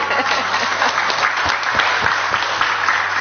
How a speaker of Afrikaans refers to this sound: Kom ons geef hulle lekker hande klap.